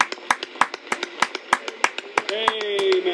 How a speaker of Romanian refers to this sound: Hai doar să-i dăm o mână mare de aplaudă.